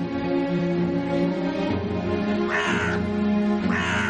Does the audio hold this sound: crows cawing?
yes